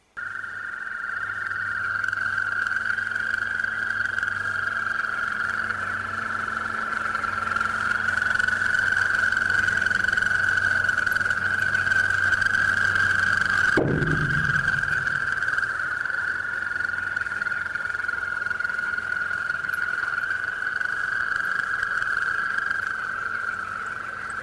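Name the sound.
frogs croaking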